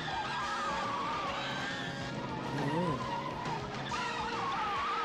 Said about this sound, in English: Coming up, guys, be prepared. We are about to witness trauma history. Okay. I'll point it out as we get a little bit closer, but just be prepared. Oh, it's the car flip?